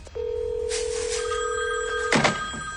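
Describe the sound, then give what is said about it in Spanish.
A landline telephone rings with one long, steady electronic tone lasting about two seconds, fairly loud, followed by a short clattering burst. No one speaks. “Cariño, está sonando el teléfono fijo.”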